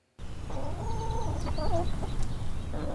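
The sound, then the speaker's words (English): Four backyard hens in St. Louis cluck and murmur in a steady, overlapping stream of short calls as they snack on dried mealworms shaken into the run of their coop from a red plastic cup, set against a constant low outdoor rumble, with no one speaking. “Four chickens snack on a treat of dried mealworms, which Katie Hitt shakes into the run of their coop from a red plastic cup.”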